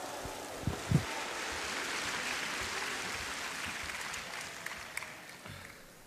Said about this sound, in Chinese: 接下来请您欣赏相声《我要闹绯闻》，表演者郭德纲、于谦，掌声有请。